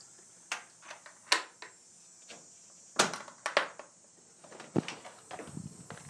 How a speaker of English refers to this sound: Okay, cicadas are going, and crickets are twittering, and it is a sunny morning. It is beautiful.